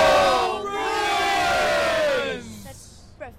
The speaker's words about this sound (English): But today, she's holding two scream-offs with Bruins diehards outside the Garden. She's trying to teach them to scream in a way that won't do damage to their vocal cords and that will still leave them with a voice tomorrow morning.